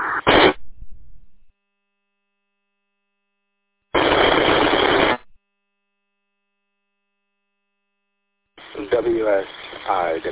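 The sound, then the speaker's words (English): Loud bursts of hissing radio static cut in and out with dead silence between them, followed by a tinny voice talking over the radio. “Hey, static.”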